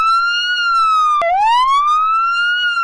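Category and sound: vehicle, police car siren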